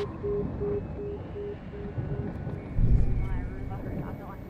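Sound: helicopter hovering overhead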